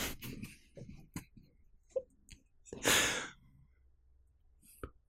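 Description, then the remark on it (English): Deep breathing exercise before singing: a few short, airy inhales and mouth clicks, then one loud, drawn-out exhale like a heavy sigh, followed by quieter breaths. No talking. “There's some breathing exercise.”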